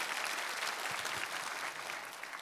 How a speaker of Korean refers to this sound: 우리 수고하신 우리 전도사님들과 우리 청소년부 교사들을 위해서 한번 힘찬 격려 박수 부탁합니다.